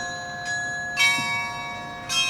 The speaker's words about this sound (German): Mit dem Glockenspiel von Stendal im Ohr fahren wir nach Werben.